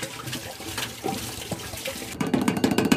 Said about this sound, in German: Also in unsere Toilettenkassette kommt jetzt da frisches Wasser rein. Erstmal schließen, ein bisschen schütteln und dann kann man das nochmal so entsorgen.